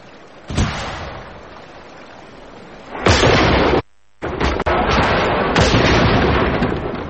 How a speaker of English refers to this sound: The very first shot from us brought down such a hail of fire as I shall never forget.